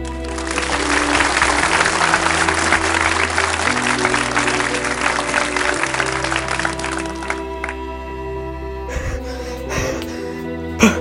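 An audience claps steadily and loudly for about seven seconds over a bed of music, welcoming the chief cruise ship designer of the Cunard ship, then the applause dies away and the music carries on alone.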